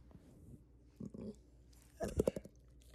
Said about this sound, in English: Gemini dogs are very vocal. And you're proving your point right now.